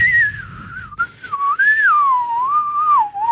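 A person whistles a wavering, sliding melody on the radio, the pure tone bending up and down continuously for a few seconds with no talking over it.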